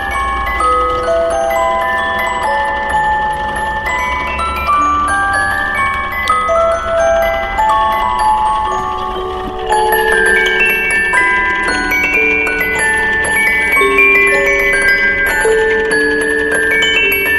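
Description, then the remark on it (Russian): An antique clock shaped like an old house, in a house-museum, chimes a steady melody of bright, ringing bell tones that overlap and sustain, playing continuously and fairly loudly for the whole stretch, with no voices. “Вот эти часы такие красивые, просто они в виде дома такого старинного, а крыша-то из чего?”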